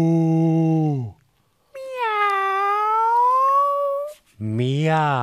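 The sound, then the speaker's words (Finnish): A person mimics a cat with a long, drawn-out, loud meow during a vocal warm-up exercise, set between shorter low-pitched vocal imitations before and after. “No, toden totta, minäkin osaan matkia eläimiä. Mää. Mää. Muu. Miau.”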